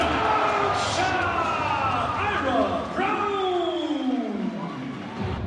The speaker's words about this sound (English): Brown just dunked over the heads of a whole bunch of other players.